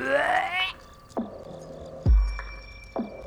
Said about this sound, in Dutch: Die was, zoals elke nacht, pintjes aan het drinken. En hij liep net een gigantische boer.